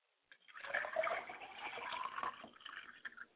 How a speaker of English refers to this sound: As I pour libation to Odulamare, I say we give honor to you, Odulamare. Libation.